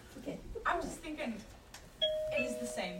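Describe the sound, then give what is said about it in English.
A doorbell chimes partway through, two clear ringing tones sustaining over each other while people keep talking. “Oh, no, bell's rung.”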